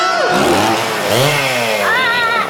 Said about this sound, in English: Welcome to Clarkson's Farm. And that owl is going in my new wood chipper.